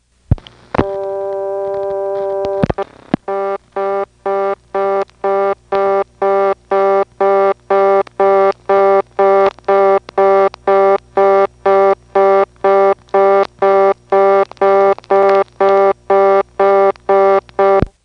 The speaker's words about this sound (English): So let's make some calls within the Fuquay-Varina 552 office, which will include dialing 1, which is a blocked level from this coin phone because there's no toll dialing of any kind here.